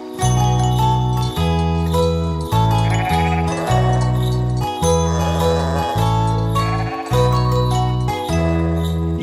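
Sheep bleat loudly and repeatedly, about nine drawn-out calls in quick succession, with light bells jingling and tinkling over them throughout.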